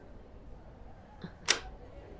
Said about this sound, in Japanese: 校内で通話以外にスマホを使用するのは校則違反です。ましてや生徒会室で相手の許可も得ずに写真を撮るなんて、盗撮と言われても仕方がありませんよ。